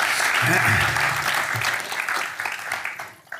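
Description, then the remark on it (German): An audience at the Kaufleuten in Zürich claps steadily in dense, sustained applause for Jens Balzer, then the applause begins to thin and fade toward the end, with faint voices mixed in beneath it. “Vor allem bitte ich nun aber um einen herzlichen Applaus für Jens Balzer.”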